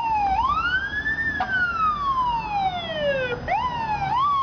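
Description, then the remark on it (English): Emergency sirens from a fire truck and ambulance wail loudly and continuously, their pitch sweeping slowly up and down in long overlapping cycles, with no voices. “In the Sweet 16, it beat out fire trucks and ambulances.”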